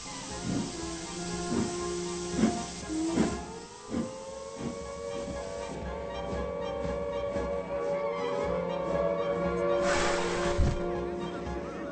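A steam train hisses at a station with a steady hiss, periodic puffing bursts and a low droning tone. A louder gush of steam rises near the end.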